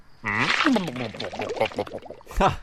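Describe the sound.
A loud, thick wet gurgling of bubbling tar, made by a voice as a cartoon character sinks into the tar, with glugging, wobbling tones that rise and fall continuously for a couple of seconds before a final burst.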